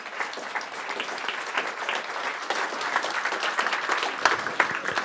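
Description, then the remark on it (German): Steady audience applause, a dense wash of many hands clapping at a fairly even level throughout, with a few sharper individual claps standing out near the end. “Applaus für euch nochmal.”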